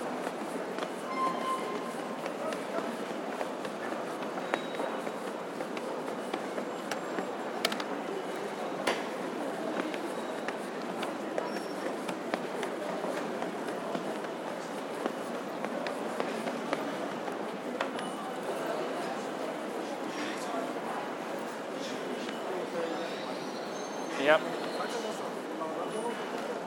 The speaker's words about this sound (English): Just the sound of all the people on the floors here and everything. Huge number of people.